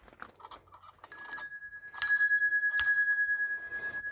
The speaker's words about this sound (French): Sonner la cloche s'il vous plaît?